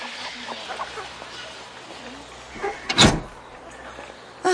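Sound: door opening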